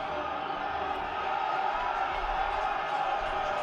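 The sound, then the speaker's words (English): A steady, dense roar of sports fans screaming and cheering, a continuous wash of many voices that holds at a constant loudness for the whole few seconds without any breaks. “And they're just screaming.”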